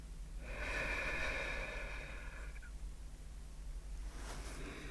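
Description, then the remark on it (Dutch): A long, slow, slightly nasal breath drawn in during a guided calm-breathing exercise, followed after a pause by the start of a softer exhale, with no talking. “Adem rustig in. En weer uit.”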